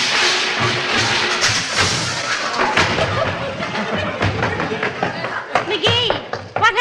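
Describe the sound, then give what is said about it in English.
A person, a bathrobe tassel caught in the refrigerator door, falls heavily to the floor onto eggs amid a scatter of thuds, smacks and clattering impacts, loud, with vocal exclamations breaking in near the end. “I shut the refrigerator door on the tassel of my bathrobe, started to walk away, and boom, flat on the hen fruit.”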